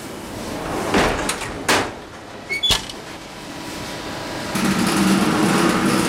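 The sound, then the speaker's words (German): Steam injected into a bakery oven just loaded with baguettes: a few sharp metallic clunks, then a steady, broad rushing hiss with a low hum underneath that continues to the end. No one speaks. “Das war jetzt die Beschwadung, also Dampf, damit das Baguette schöne Farbe bekommt und glänzt, schön glänzt.”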